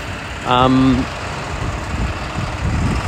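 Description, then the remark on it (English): Cars idle with a steady low engine rumble throughout, briefly joined near the start by a short tonal, voice-like sound before the idling continues alone. The cars are stopped at a pedestrian crosswalk while a pedestrian crosses the street. “Crossing the street again, and cars are stopping.”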